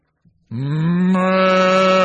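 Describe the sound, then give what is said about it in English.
A single loud, drawn-out cow moo begins after a brief soft rustle and holds a steady, rich, droning tone to the end, with no talking. “God turned him into a cow.”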